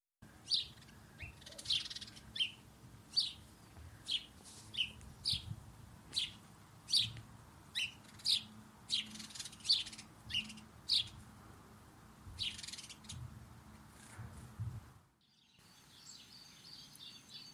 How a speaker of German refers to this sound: In fast allen Siedlungsräumen ist auch dieser Vogel anzufinden. Der sogenannte Haussperling, auch Spatz genannt.